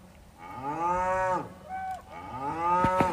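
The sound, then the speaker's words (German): Cattle mooing outside a camper van while camping in Scotland: two long, low, drawn-out moos with rich harmonics, the second swelling louder toward the end, with no talking. “Ich muss sagen, die eine Sache, die ich wirklich mit Camping und Schottland in Verbindung bringe, sind Tiere. Tierischer Besuch am Auto.”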